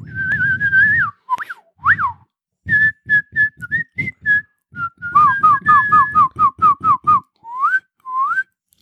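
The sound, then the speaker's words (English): A person whistles loudly in imitation of creature calls: a long wavering note, upward slides, then a quick run of short chirping notes with brief pauses between. “So yeah, he heard fucking whistling.”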